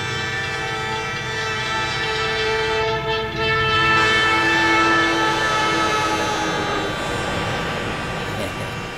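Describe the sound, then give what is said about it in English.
A train horn blares in long sustained tones over the heavy rumble of an approaching train at a railroad crossing, loud throughout, with no pause in the noise. “I placed my mouth right next to the flap of his left ear and went into a little routine we call railroad crossing, train coming.”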